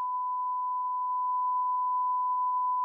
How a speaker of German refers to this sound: Wir piepen das raus.